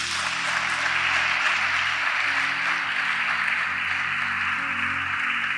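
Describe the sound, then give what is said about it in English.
A church audience claps for Jesus during a sermon, a dense, continuous wash of many hands at fairly even loudness for several seconds, with a low hum beneath and no speech. “Clap for Jesus.”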